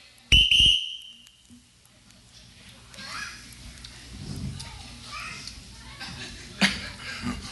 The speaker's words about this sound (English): Here is the next round. When I blow the whistle, take the sip and then indicate. Okay, ready?